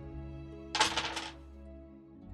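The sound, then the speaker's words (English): A short clatter of three dice tumbling onto a hard surface and landing on 1, 4 and 5, a quick burst of several sharp rattling clicks that settles within about half a second over a steady low hum. “So that is actually three dice.”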